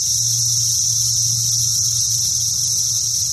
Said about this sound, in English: The steady drone of cicadas on an August afternoon. Nowhere near as dramatic as the sound of hurricanes that rip roofs off of buildings.